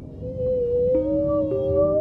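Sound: whales singing underwater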